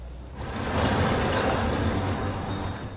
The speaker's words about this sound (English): In the reconstruction, the 4x4's headlights pierce the gloom as the vehicle parks on a track and the bearded man is taken into the forest.